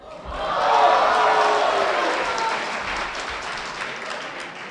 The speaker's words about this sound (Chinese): 哎呀，这个掌声啊，是给您的。